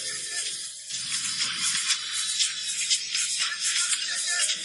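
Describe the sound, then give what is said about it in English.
A steady, dry buzzing rattle of a snake's tail, sustained for the whole stretch, with a high hissing texture and no talking. “We see sky, we see trees, we hear animals. Ooh, snakes.”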